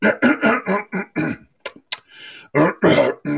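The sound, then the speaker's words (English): Someone clears their throat with a run of loud, rough, guttural bursts, pauses for a couple of sharp clicks and a breathy exhale, then finishes with two more harsh hacks. “Clear my throat.”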